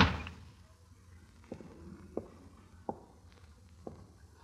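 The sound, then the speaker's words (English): A door slams shut with a loud, sharp bang as someone walks out, quickly dying away, followed by a few faint, evenly spaced taps in otherwise quiet surroundings. “if you go out that door, we're through.”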